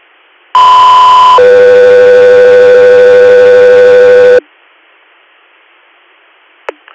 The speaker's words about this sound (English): Guthrie Air, stand by for tones.